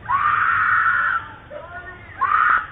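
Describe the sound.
A man yells "I'm sorry" loudly in a long, strained outburst, then falls quiet before a second, shorter shout. The voice sounds thin and compressed, picked up by a doorbell camera.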